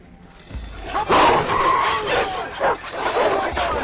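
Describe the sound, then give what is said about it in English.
A dog named Barney barks loudly, several sharp bursts in quick, uneven succession over a rough, noisy background. “He's only a dog.”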